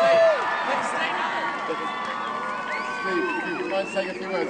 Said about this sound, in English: Thanks, everybody, for being here. And one round of applause for Steve Fawcett.